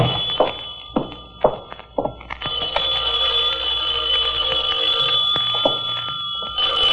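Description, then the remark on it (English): A telephone bell rings steadily and fairly loud, continuing for several seconds, after a few dull thumps and knocks as a door is unlocked on arriving home. “Knew that phone would be ringing.”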